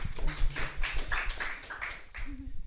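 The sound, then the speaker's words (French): An audience claps together in a dense, steady burst of applause lasting a few seconds, with a few voices calling out over the clapping. “On m'applaudit, ouais.”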